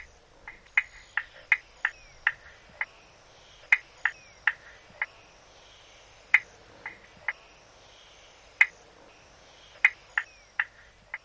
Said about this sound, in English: In the eastern half of Tasmania, you will find another marsh frog with smooth skin, a yellow stripe down its back, and green spots. This is the spotted marsh frog, and here is its call.